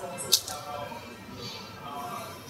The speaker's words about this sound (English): There we go. Pour the beer.